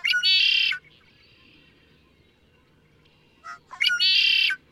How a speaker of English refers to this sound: Equally arresting are the raucous growls, wails, and whistles of another western bird, the yellow-headed blackbird. Which, on a close listen, isn't that far from the song we started with, the red-winged blackbird.